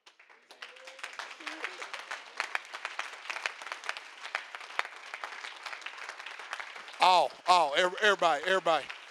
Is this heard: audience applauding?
yes